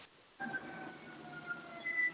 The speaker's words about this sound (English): So, okay, who's got sirens? Everybody okay? I hear sirens in the background. I hear them too.